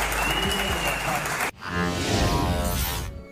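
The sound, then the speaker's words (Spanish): A dense wash of clapping from a crowd, steady and fairly loud, with an abrupt cut partway through before the applause resumes alongside voices and a murmur of cheering. “¿Quién le aplaude eso? Yo creo que son grabados, aplausos grabados.”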